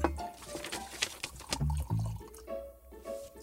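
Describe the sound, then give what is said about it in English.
Liquid gurgles and splashes as a drink is poured into a glass, with a few seconds of steady glugging that shifts in pitch as the glass fills. No one speaks. “Shall I pour us one?”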